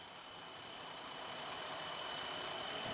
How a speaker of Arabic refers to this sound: هنا يختبر المهندسون محرك الديزل الحديث وفق وسائل ومخططات جديدة، فقد تبين أن المحرك الجديد يخلف هو أيضا انبعاثات ضارة، وحبيبات السخام الناجمة عنه ما زالت ماثلة.